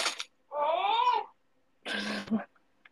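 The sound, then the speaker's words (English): A comedic sound effect called Funny Crunch and Surprise Sumo Wrestler: a short wavering, whiny tone that slides up and down, a brief pause, then a loud, gritty crunching burst with a low thump at its end. “The sound effects is called Funny Crunch and Surprise Sumo Wrestler.”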